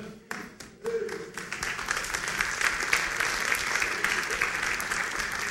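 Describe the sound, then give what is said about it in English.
An audience, the married people among them, bursts into steady applause, many hands clapping in a dense, continuous patter that swells quickly after a few scattered claps and holds at a fairly loud level throughout. “That's all the married people clapping that already married.”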